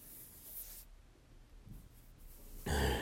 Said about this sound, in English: What if I just kissed your neck, trailed my hands down against your back, under your shirt, and dragged my nails down like this?